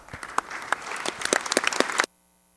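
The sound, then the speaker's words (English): People in a House of Representatives chamber break into a short burst of applause for the visiting Jones County Safe and Healthy Youth Coalition, many hands clapping in a dense, steady patter that builds slightly before stopping abruptly after about two seconds. “They represent the Jones County Safe and Healthy Youth Coalition, and if you would give them a little applause, I know they'd appreciate it.”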